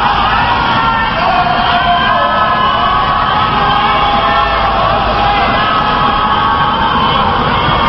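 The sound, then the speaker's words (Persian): A large crowd of protesters in the central and northern streets of Tehran, Iran, chants and shouts "Allahu Akbar" in unison at night, many voices merging into long, drawn-out cries that carry steadily and loudly throughout, with no pauses or other sounds breaking through. “بر اساس گزارش شاهدان عینی، شب گذشته معترضان در خیابان‌های مرکزی و شمال تهران فریاد الله اکبر و یا حجت ابن الحسن ریشه ظلم رو بکن سر دادند.”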